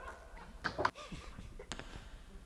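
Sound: dog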